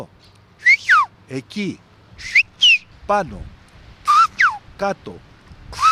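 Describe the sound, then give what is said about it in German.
Short bursts of Greek whistled language, whistling words such as here, there, up and down: sharp sliding whistles rising and falling in pitch, alternating with brief spoken syllables, clear, in a quick back-and-forth rhythm. “Er war selber sehr überrascht, als er gesehen hat, dass er ganz schnell ganze Wörter pfeifen konnte.”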